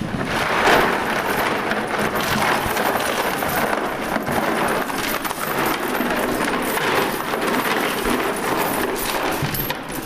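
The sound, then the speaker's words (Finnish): A steady, continuous cascade of metallic jingling and clinking as a mass of dug-up euro coins, including 5-cent pieces, is tipped into a box, dense and fairly loud throughout with no voices. “Otetaan tuolta meidän laatikko, mihin ruvetaan kippaan.”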